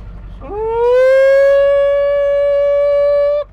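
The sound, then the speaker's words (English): A man lets out a single loud, drawn-out call to his cows in the fields, calling them to come and get feed, his voice swooping upward and then holding one steady, ringing note for about three seconds before cutting off. “Hans bedstefar lærte ham at kalde på køerne.”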